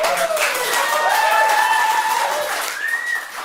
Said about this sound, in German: Juni 2015. Jubel und Freudentränen im Bezirksgericht in Den Haag. Niederländische Klimaschützer der Umweltstiftung Urenda haben es tatsächlich geschafft.